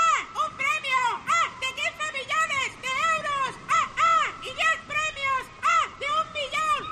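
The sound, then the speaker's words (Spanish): Seagulls calling by the sea in a quick, overlapping series of loud, nasal cries and squawks, steady throughout, with no talking. “Si este verano estás mirando el mar, pasa una gaviota y oyes...”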